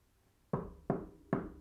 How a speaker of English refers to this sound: There it was again. It sounds like someone is knocking on our door